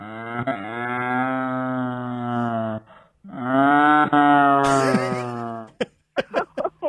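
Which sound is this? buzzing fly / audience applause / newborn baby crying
newborn baby crying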